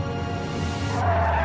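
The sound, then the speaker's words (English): Car tires squeal loudly and continuously against the road over a low engine rumble as the driver slams on the brakes, the screech rising slightly in pitch near the end as the car skids to a halt. “She screeches to a halt and runs out of her flipped-over car.”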